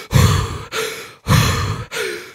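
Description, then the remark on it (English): Two quick cycles of deep, forceful Wim Hof technique breathing, each a loud rushing inhale followed straight by a heavy exhale, in a steady rapid rhythm with no talking. “Have you heard of Wim Hof? So it's a breathing technique that I've done once”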